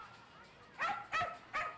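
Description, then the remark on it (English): A dog being walked by someone talking on a cell phone barks three times in quick succession, short sharp yaps, after a brief stretch of quiet background. “I am talking on my cell phone and walking my dog.”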